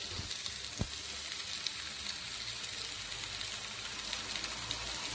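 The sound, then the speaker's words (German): Steady, dense sizzling of food on a grill, a continuous crackling hiss with a few sharper pops, alone without talk throughout. “So, jetzt feuert das richtig. Das ist perfekt. Wie grillt ihr eigentlich am liebsten?”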